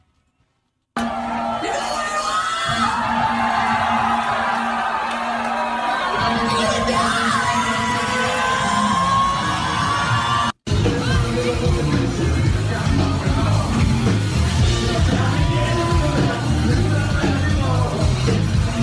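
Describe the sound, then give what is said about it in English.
Loud live rock music with a crowd yelling and cheering over it, a rough, distorted cell-phone recording of a band's live set put together as a montage, cutting abruptly midway into another loud stretch of band and shouting. “There's a montage of, somebody put a montage of the set together. Let's listen to a little bit of that.”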